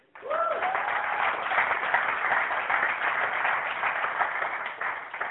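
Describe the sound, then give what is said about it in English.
An audience bursts into applause for a man, a dense, steady roar of many hands clapping that begins abruptly and holds at an even, loud level for about five seconds, with a brief rising whoop near the start. “This brother needs to be applauded.”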